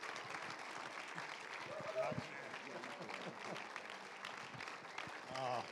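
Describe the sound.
Steady audience applause, a dense wash of many hands clapping that holds for several seconds, with scattered voices and brief calls mixed in and a slight swell near the end.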